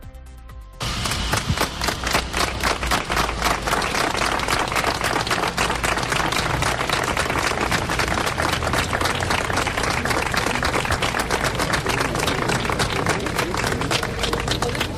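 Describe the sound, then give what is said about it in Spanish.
A brief hush, a minute of silence for a man from El Bierzo killed in a mine accident at Cerredo, Degaña, Asturias, gives way to sudden, sustained applause: dense, steady clapping that stays loud and even for around fourteen seconds, with no voices heard. Held at the Consejo Comarcal del Bierzo and Ponferrada City Council. “El silencio solo se ha roto por los aplausos.”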